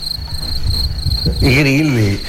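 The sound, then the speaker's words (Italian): A steady, high-pitched cricket trill runs continuously and fairly loud, and about halfway through a brief wavering voice rises over it before the chirping carries on underneath. “I grilli, ieri i grilli in secchietta, appena arrivato questo, mi fate morire”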